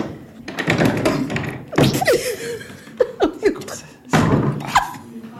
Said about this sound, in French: On essaie de fermer la porte et on n'y arrive pas. Attendez. Ça a l'air de tenir, là. Et en même temps... Attendez, on va mettre le siège devant.